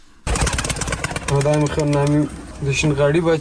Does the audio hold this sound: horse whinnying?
no